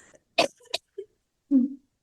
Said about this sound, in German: oh, jetzt muss ich husten, Entschuldigung.